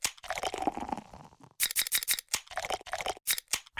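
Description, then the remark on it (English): Crisp Bud Light beer can and bottle sounds used as a messaging code, here spelling out "happy hour": a quick string of sharp clicks, snaps and short fizzy hisses in an uneven, code-like rhythm, fairly loud, with no one talking. “We've invented a new messaging system using the crisp sounds of Bud Light.”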